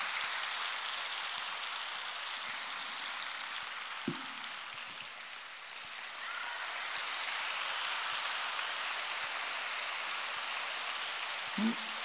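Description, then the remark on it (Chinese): An audience claps steadily for about twelve seconds, a dense, light patter of many hands that sounds like soft drizzle, with a couple of faint low thumps and no voices. “弄得像毛毛雨一样。”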